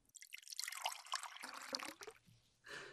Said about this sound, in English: And Mummy, you pour the wine and hand me my glass.